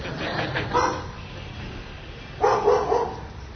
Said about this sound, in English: Dog is welcoming you.